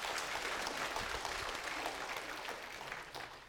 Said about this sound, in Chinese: 感谢赞美神，把掌声归给神。